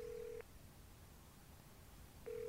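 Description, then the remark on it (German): A telephone ringback tone, a steady electronic beep heard through the line, sounds briefly, falls silent under faint hiss, then begins again. No voices are heard. “Ein paar Telefonate später weiß ich, dass es ein Kinderspiel ist, Alleinerziehende zu finden.”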